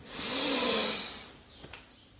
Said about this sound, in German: Wir nehmen jetzt gemeinsam einen tiefen Atemzug und atmen ein.